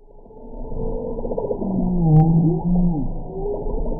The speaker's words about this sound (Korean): 지금 나오는 소리는 깊은 바다에서 움직이는 북극 고래가 내는 소리입니다. 북극 고래는 크고 강합니다.